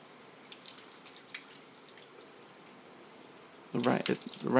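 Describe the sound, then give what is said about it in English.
Rainwater drips steadily off a roof during a thunderstorm in soft, irregular ticks over a low wash of rain and wind, until a voice begins speaking near the end. “The dripping you can hear as it coming off the roof.”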